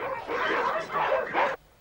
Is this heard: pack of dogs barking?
yes